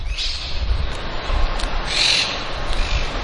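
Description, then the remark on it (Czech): Harsh, shrill screeches of parrots rise repeatedly over a steady rumble of city traffic at the grounds of a college building surrounded by a garden in Rome, several calls overlapping with no one speaking. “Při příchodu do areálu koleje k úctyhodné budově obklopené krásnou zahradou překryje ruch velkoměsta křik všudy přítomných papoušků.”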